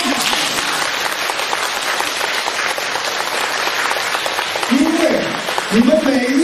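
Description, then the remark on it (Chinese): Dense, steady audience applause at the end of a talk fills the whole clip, a continuous roar of many hands clapping, with a man's voice briefly speaking over it near the end. “台长特别开心，你看看呢，人不多，但是我听这个掌声就是几千人的掌声。”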